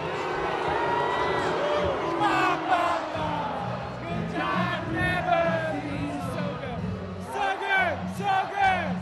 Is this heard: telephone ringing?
no